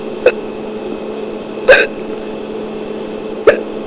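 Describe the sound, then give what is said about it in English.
Three sharp hiccups from a person who has had the hiccups for ten minutes, spaced a bit over a second apart, each a brief throaty catch against a quiet background, with no talking. “I've had the hiccups for 10 minutes now.”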